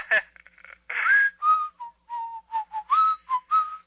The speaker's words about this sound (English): whistling in the background?